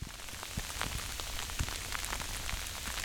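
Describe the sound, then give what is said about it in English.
Sleet falling steadily, a dense wash of fine hiss dotted with many sharp little ticks and taps as icy pellets strike a surface, with no voices present. “This week, that sound of sleet opens our annual episode on winter preparedness.”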